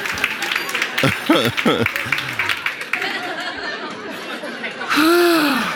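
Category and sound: crowd, audience applauding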